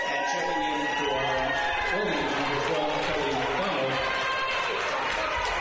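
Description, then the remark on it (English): A basketball crowd applauds Kiara Harmon, who scored 14 points, as she leaves the game, a steady, dense wash of clapping and cheering that holds at an even level for several seconds, with voices mixed into the noise. “Applause for Kiara Harmon.”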